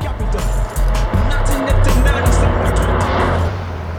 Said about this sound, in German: Auf dem Rückweg zu Bobs Käfer fuhr ein knallgelber Daihatsu an den drei Detektiven vorbei, aus dem laute Hip-Hop-Musik drang.